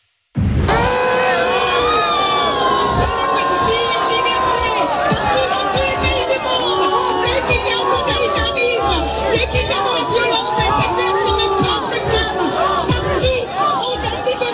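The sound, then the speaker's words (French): A large crowd at a demonstration in support of Iranian women boos and jeers Sandrine Rousseau as she tries to speak, a loud, unbroken mass of overlapping shouting voices that starts abruptly and keeps up for about fourteen seconds. “qui était présente sur place et qui a été huée”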